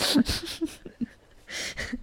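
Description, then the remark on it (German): A dog named Lotti makes a quick run of short, breathy bursts, a pause, then two more, from drinking, sneezing or panting; fairly quiet, with no talking. “Und wahrscheinlich hört man sie gerade trinken oder auch niesen oder auch hecheln.”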